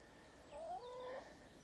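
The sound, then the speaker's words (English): Young point-of-lay pullet hens of no particular breed give a short burst of soft clucking calls while scratching and walking about, a brief rising vocal phrase over a quiet outdoor background, with no talking. “You could probably hear them scratching and walking about around me.”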